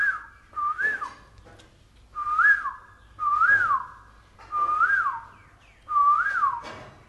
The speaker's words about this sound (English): we have the kokil here. Why does the kokil remind me of him? We're in Navadvip, we hear the kokils, and he'll say, oh.